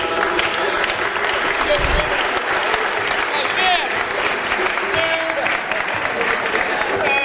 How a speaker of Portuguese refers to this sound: Então, receba uma salva de palmas aqui